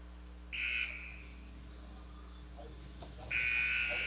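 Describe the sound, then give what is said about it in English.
Two sharp referee's whistle blasts over a low arena hum at an ice hockey game as the official stops play: a short shrill toot, a pause of a few seconds, then a longer piercing blast that runs to the end. “Official blew the whistle there.”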